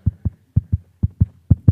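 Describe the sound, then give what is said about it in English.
A fetal heartbeat recording: quick, steady double thumps, low and muffled, repeating about twice a second with no voices present. “It's a baby heartbeat, so it's...”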